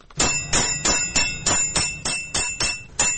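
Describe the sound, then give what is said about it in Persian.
A 68-year-old tinsmith's hammer strikes tin sheet in a dark, cold tinsmithing workshop in Taloqan, capital of Takhar province, about ten times at a steady, even rhythm. Each blow rings out loud and bright with a metallic clang, and no one speaks. “در کارگاه تاریک و سرد حلبی سازی تالقان مرکز ولایت تخار، صدای چکش های رستم 68 ساله هنوز هم در میان سکوت بازار می پیچد”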